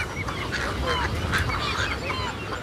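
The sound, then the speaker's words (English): A crowded rookery of tricolored herons, glossy ibises, night herons and snowy egrets, a bird every 2 or 3 feet, in full chorus: dozens of hoarse squawks and croaks overlapping continuously, loud, with no pauses between calls. “Oh, there's probably, well, I know there are tricolored herons, glossy ibises, night herons, snowy egrets.”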